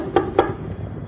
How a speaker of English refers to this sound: Right? When I am persistent like this, then you know that this is a knock.